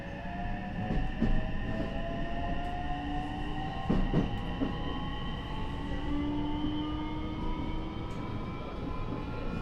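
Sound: train running on rails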